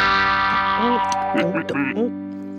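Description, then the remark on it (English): A sustained electric guitar tone run through a wah-wah pedal, its resonance sweeping up and down in several vowel-like swells, played alone at moderate loudness. “So we know what a wah-wah pedal is, right? Yes, yes, a wah-wah pedal. So here's what that sounds like.”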